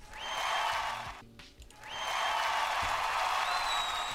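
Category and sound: crowd, applause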